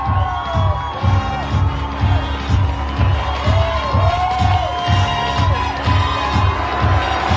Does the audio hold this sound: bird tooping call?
no